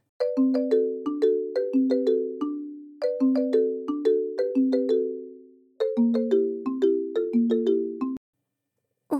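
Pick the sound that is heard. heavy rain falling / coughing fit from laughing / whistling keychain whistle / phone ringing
phone ringing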